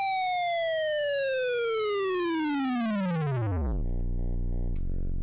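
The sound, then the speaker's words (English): A harsh, buzzy square-wave test tone, played in stereo through a computer sound card, glides steadily downward in pitch over several seconds, ending in a low, rough buzz that holds near the bottom, with no voices present. “Okay, here's the square wave, which does the same thing.”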